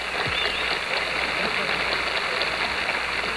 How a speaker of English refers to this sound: Hear the tribute of this crowd for these men as they come up here. people now rising to their feet. A standing ovation for two great men.